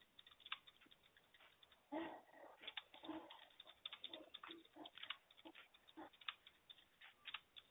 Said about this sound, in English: If I do take any breaks, it's just me typing up if I go mute.